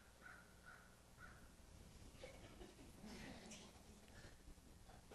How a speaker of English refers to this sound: That is a loud bird.